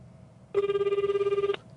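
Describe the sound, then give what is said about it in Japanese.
A single one-second burst of an outgoing call's ringback tone, a steady buzzing pitch with a fast warble, heard clearly on its own with quiet background before and after. “ちょっと電話してみましょうか。”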